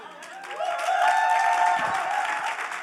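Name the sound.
audience applause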